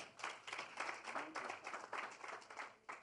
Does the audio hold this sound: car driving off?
no